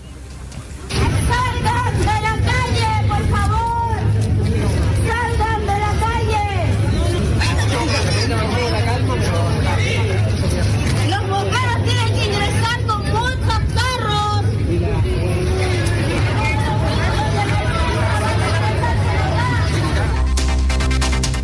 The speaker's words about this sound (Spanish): Ahí ustedes escuchaban el bullicio de las personas que claramente estaban muy preocupadas porque primero habían sido evacuadas por un tema preventivo relacionado con el humo.